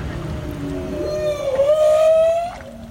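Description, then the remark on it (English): A whale's long, rising tonal call sweeps upward with rich harmonics, heard close to a boat in the Antarctic Peninsula over a low rumbling engine-like drone, with no one speaking. “I spent time in the Antarctic Peninsula doing a story about whales last year, and I didn't expect to have quite so many close encounters.”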